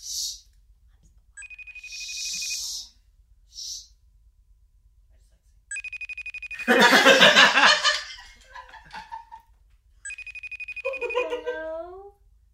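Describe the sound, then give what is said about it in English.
An outgoing phone call rings, a steady high electronic tone repeating in three bursts with pauses between, while people laugh loudly over the middle ring. “We're calling.”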